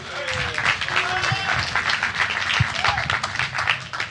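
A crowd breaks into sustained applause, dense overlapping claps filling the room at a steady, fairly loud level for several seconds, with a few cheers mixed in.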